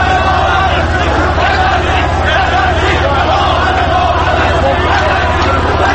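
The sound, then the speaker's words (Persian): A large protest crowd shouts continuously, many voices blending into a loud, steady roar with rising chant-like swells of "We won't be afraid, we are all together" and a constant low rumble beneath. “مردم هنوز وایسادن، دارن فریاد میزنن، دارن داد میزنن نترسیم نترسیم، ما همه با هم هستیم.”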